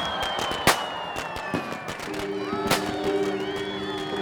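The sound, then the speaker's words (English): Firecrackers burst at the official start of Chinese New Year amid a festive street parade on Grant Avenue, with loud sharp bangs and rapid crackling over a busy crowd and steady horn-like tones joining halfway through. “as the hungry head heaves out into Grant Avenue, right under the sign, and raising itself with a great snort of fire, suddenly proclaims the official firecracker start of the Chinese New Year.”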